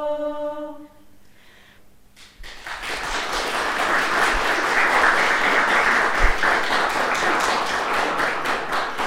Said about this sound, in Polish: Jeszcze raz wielkie brawa dla chóru …. Dziękujemy serdecznie. Było to piękne, wzruszające i myślę, na długo zostanie razem z nami ta emocja.